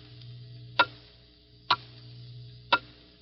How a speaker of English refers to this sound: Hear it? Those are the last fading moments of 1950. The clock is steadily counting them out. 10 seconds.